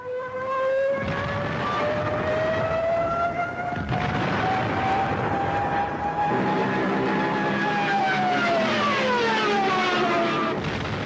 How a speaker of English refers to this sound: They called them Jericho trumpets. They were specifically designed to cause terror and panic in the enemy. Every time a Stuka dove down at a target on the ground, their trumpets filled the air with high-pitched screeches.